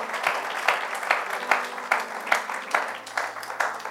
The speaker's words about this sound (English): Man, you give the Lord a round of applause.